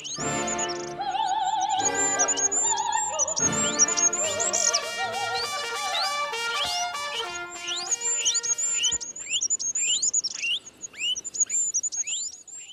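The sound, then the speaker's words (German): A dense, high-pitched jumble of twittering and squeaky chirps, rapid upward sweeps over a thin whistling tone, layered with sustained musical notes, running continuously at a steady, fairly loud level. “Ein hohes Gezwitscher und Gefiepe.”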